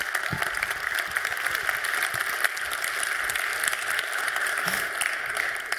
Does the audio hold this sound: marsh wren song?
no